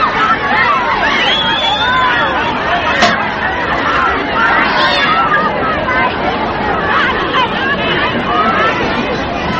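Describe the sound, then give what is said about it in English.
A dense, steady crowd hubbub of many overlapping voices chattering at once as the crowd shakes hands with President Kennedy while he makes his way through, loud and continuous throughout with no single speaker standing out, with a brief sharp click partway through. “This is the crowd as they shake hands with President Kennedy. He's making his way through the crowd.”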